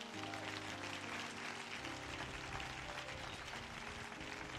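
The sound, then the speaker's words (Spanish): An audience claps steadily for several seconds as applause for the Lord during a sermon, a dense, continuous patter of many hands filling the room, with sustained musical tones held underneath. “¿Por qué no un aplauso al Señor?”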